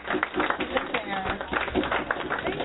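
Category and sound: crowd, round of applause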